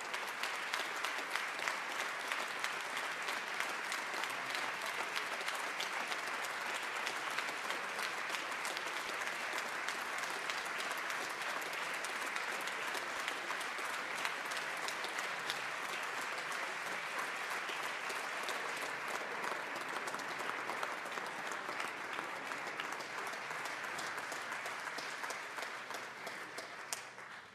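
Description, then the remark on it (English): A large crowd applauds steadily for nearly half a minute for the governor of Colorado as a committee escorts him to his chambers. It is a dense, sustained wash of clapping at full volume with no talking over it. “Colleagues and guests, as our committee escorts the governor to his chambers, join me in another raucous round of applause for the governor of the great state of Colorado.”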